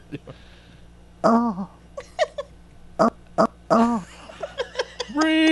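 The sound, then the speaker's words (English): A string of loud fart sound effects from a soundboard fires off in quick bursts with short gaps, some brief and sputtering, ending on a longer buzzy blast. “Like, hit it a couple times, like that fart noise.”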